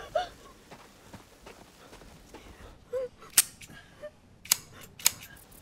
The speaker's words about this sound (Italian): Che stai facendo? Sparo al finestrino. Stai indietro! Sto per sparare al finestrino!